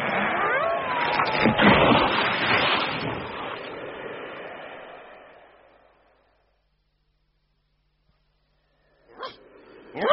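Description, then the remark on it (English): A dog barks and yips in a loud, busy flurry that gradually fades into silence, followed by a couple of short, sharp sounds near the end. “So you can perk up your ears and wag your tail and bark.”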